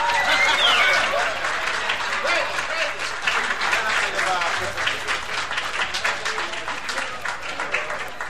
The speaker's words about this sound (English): and something I noticed at this point in the album is kind of something that seems out of place to me, was a sound clip, it was a sound effect of applause and cheering.